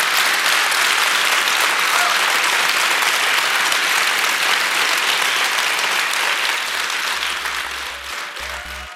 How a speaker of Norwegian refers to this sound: Og da tenker jeg det at vi skal gi en dundrende applaus til den mannen.